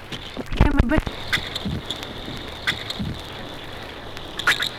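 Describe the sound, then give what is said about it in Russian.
Underwater sounds of a zander seizing small fish: a loud burst of low thuds and rapid clicks early on, then a few sharp isolated clicks over a steady, faint high-pitched hum. “Звуки, издаваемые судаком при захвате мелкой рыбы.”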